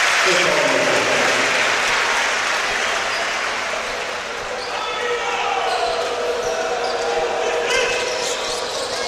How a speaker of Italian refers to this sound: Va a riposare De Laurentiis. Grandi applausi per lui, grande gladiatore stasera.